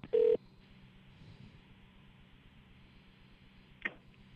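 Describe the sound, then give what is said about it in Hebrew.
A single loud telephone keypad tone beeps briefly at the start, followed by several seconds of faint line hiss and a short, quieter blip near the end. No one speaks. “ניתן להשאיר הודעה או לחייג 0 למרכזייה.”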